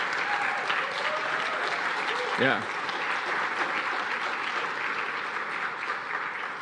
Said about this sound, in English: So let's clap for all the moms.